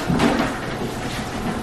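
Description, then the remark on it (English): A door is pushed open with a short scraping, rattling burst at the start, followed by a steady background hum. No one speaks. “I don't know how to keep that door open.”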